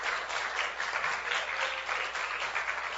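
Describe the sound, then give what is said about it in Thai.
An audience claps loudly for three seconds to honor God, a dense, steady roar of overlapping hand claps with no individual beats standing out and no voices rising above it. “อาเมนให้เราตบมือถวายเกียรติแก่พระเจ้าให้ดังๆเลยค่ะ”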